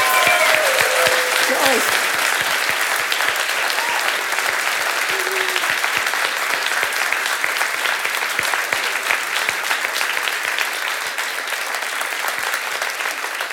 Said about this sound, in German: Und ich finde, jetzt ist das mal ein Applaus wert. Wir begrüßen euch.